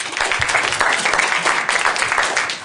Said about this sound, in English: We give Andrew a round of applause.